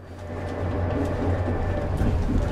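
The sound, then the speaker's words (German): Steady rumble of a tram in motion in Leipzig at rush hour, with a low mechanical drone and faint rattling, fairly loud throughout, no voices. “Straßenbahn fahren in Leipzig zur Rush-Hour.”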